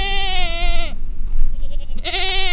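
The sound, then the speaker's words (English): A herder's goats on the grassland in Mongolia bleat loudly, one long wavering cry followed after a short pause by another, over a steady low outdoor rumble. “Yes, I know my goats are harmful to our grassland, and the more we have, the worse our land becomes.”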